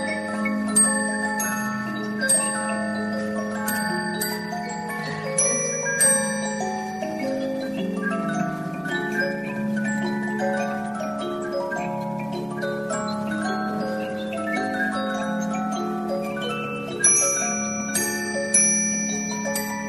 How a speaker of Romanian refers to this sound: Sigur că această cutie este o cutie cu acompaniament, noi o numim cutie tip orchestră. Sistemul este simplu, cu arc, iar acompaniamentul, vedeți că este realizat cu fluturaș, care o să lovească niște clopoței și produce muzica înscrisă pe cilindru.